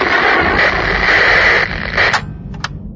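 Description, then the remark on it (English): A loud, harsh burst of hissing radio static at the end of a recording roars steadily for over a second, then thins and crackles out with a couple of brief sharp pops near the end. “The recording ended with a blast of white noise that made the envoy jump.”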